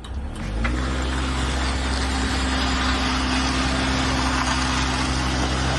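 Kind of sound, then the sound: vehicle, car engine revving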